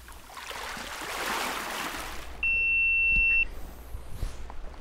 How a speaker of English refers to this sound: Look at that water. Listen to it.